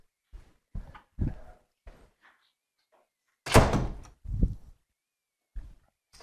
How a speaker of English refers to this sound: I'm going to close the door here because it's loud.